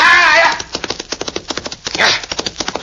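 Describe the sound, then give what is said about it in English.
A horse, Diablo, gallops after another horse, its hooves pounding in a quick, driving rhythm after a brief whinny at the start, with another short burst of noise midway through. “Now, show me you can catch that other horse.”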